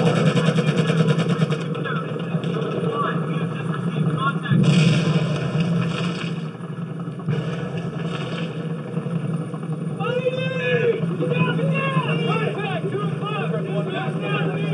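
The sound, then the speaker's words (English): A helicopter sound effect in a simulation of driving along a road in Iraq: a loud, steady low throbbing drone that runs throughout, with a couple of brief noisy bursts and warbling, voice-like chatter layered on top in the second half. “So the helicopter sound is definitely jarring.”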